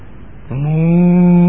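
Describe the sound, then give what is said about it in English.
A person imitates a cow with a single long, steady "moo" that begins after a brief pause and swells gradually louder, clear with no other sounds. “Moo. And as cows, we are feeding the little calves.”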